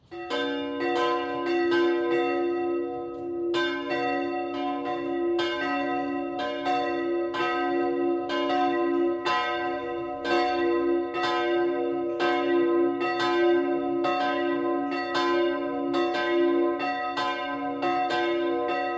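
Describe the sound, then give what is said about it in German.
Church bells of the Catholic branch church St. Martin in Dürnhausen, Upper Bavaria, ring the noon peal continuously, overlapping strikes ringing out in a steady, fairly fast rhythm with rich metallic overtones and a sustained low hum beneath, loud throughout with no voices. “Das Mittagsläuten kommt heute von der katholischen Filialkirche St. Martin im oberbayerischen Dürnhausen.”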